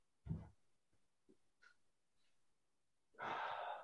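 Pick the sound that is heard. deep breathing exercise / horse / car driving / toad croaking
deep breathing exercise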